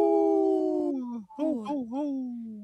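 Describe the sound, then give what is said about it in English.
A wolf howls: one long, steady, high tone that sags slightly in pitch, then after a short break a few shorter, wavering howls that rise and fall, loud and alone. “This portion of the show is supported by Howling for Wolves, protecting wolves for future generations. Howl! Howl! Howl!”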